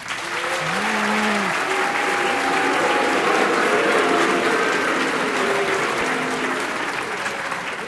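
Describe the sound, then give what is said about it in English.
A large audience at the Chase Auditorium in downtown Chicago, at NPR's Wait Wait Don't Tell Me, applauds and cheers loudly and steadily, with voices chanting host Luke Burbank's name, "Luke", above the dense clapping throughout. “And if you're just joining us, they're not booing.”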